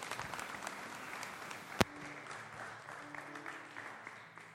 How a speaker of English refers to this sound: Let's give the Lord a great big clap this morning